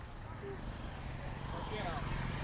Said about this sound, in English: It's so busy, I can't believe it. There's, I can see two taxis, there's Boda Boda, there's people walking on the street, there's a noise of traffic. I'm just going to put the microphone out the window for the noise of traffic.